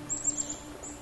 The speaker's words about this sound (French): Seul le souffle du vent dans les branches, les oiseaux qui gazouillent, les animaux qui se reposent à la fraîcheur.